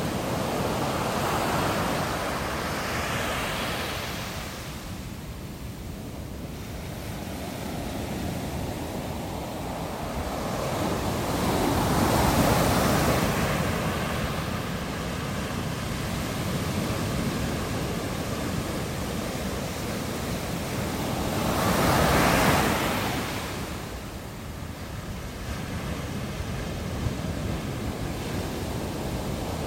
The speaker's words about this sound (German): Und da gibt es riesige Dünen direkt am Pazifik. Und da krachen die Wellen so richtig schön dran.